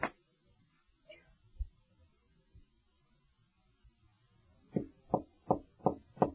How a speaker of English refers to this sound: Stand at the door and knock.